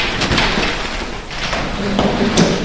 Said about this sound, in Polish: Jeżeli pani pozwoli, to otworzę tą wielką szufladę.